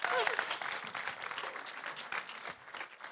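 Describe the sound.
People at a church service applaud steadily, dense clapping sustained throughout with a brief voice cutting through near the start.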